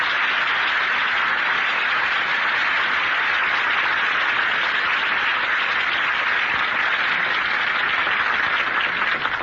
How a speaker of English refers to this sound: You don't have to applaud. I'd have sung it anyway.